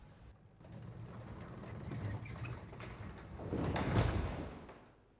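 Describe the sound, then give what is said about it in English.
Heavy doors of the Penley lifeboat launch station roll shut after the lifeboat slides into the sea, with a long, grinding rumble that builds steadily to a loud peak near the end before cutting off. No one speaks. “The lifeboat slides into the sea and the doors to the launch station close.”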